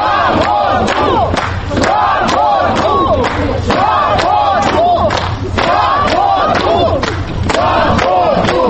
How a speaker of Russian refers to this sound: Участники акции быстро сориентировались и переместились к воротам. Бывших руководителей ЮКОСа встречали аплодисментами и дружным скандированием.